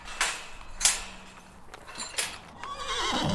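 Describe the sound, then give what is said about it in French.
A horse whinnies outdoors in a paddock, one of several fields where horses are grouped by their condition, with a rising, breathy neigh near the end, amid snorts and a few hoof sounds on soft ground; moderately loud, with no talking. “Donc on a plusieurs prés et les chevaux sont regroupés en fonction de leur état.”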